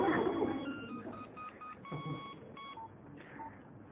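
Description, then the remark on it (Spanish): A cellphone rings out with a string of short electronic beeping tones in a quick melodic pattern, fairly loud, over a murmur of background noise, interrupting a talk. “después de esta interrupción, es que no apagan esos celulares.”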